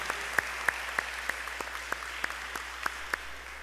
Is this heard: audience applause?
yes